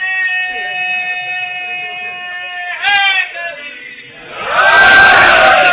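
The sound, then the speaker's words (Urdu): A crowd at a religious gathering chants the slogan "Yazidiyat murdabad, Hussainiyat zindabad": one voice holds a long, steady, drawn-out call, then many voices answer together in a loud, rising roar that fills the end. “تو میں بھی ہمیشہ جب کوئی ایسا نعرہ لگتا ہے گھڑی دیکھتا ہوں کہ کہیں یہ نعرہ اس لیے تو نہیں ہے کہ مولانا ٹائم پورا ہو چکا ہے, لیکن نہیں, یہ بڑے خلوص سے نعرہ لگایا گیا, اس نے مجھے ایک ٹاپک دے دیا.”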